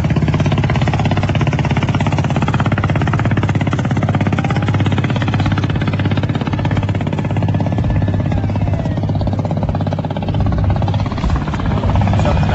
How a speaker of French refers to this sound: Ça, c'est des ferries qui descendent le fleuve ou qui montent le fleuve.